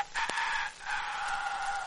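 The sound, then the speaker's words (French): A voice imitates a rooster's crow answering a hen, one of the animal cries recalled from a visit to the Jardin des Plantes: a loud, strained cock-a-doodle-doo in two drawn-out parts with a brief break between them, and no other talking. “Son petit mari lui répond.”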